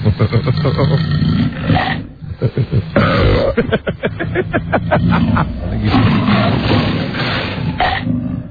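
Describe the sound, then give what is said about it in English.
A deep, rough tiger roar rumbles loudly, breaking into a series of rapid guttural pulses midway before continuing as a sustained growling bellow. “That's the tiger burping up a little Roy.”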